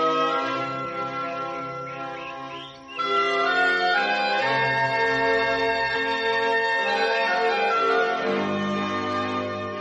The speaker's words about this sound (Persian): درخت شنباته که میفهمه اگه امون روز به حال خودش رها کنه ممکنه حواسش پرت پرنده ها بشه و یادش بره کار داره، زنگ یکی از ساعتاشو به صدا در میاره و پرنده ها بر میگردن سر جاشون.